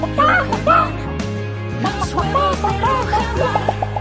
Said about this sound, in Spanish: Pues así es como producen los huevos Rujamar sus gallinas, libres y felices.